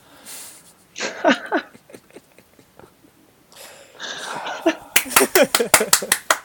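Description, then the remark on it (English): Voices talk and laugh, then a single pair of hands claps about ten times in a quick, steady rhythm, each clap sharp and fairly loud. “No, I had somebody clap for me. Yeah, I did clap for myself.”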